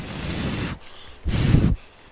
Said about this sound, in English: It's really windy here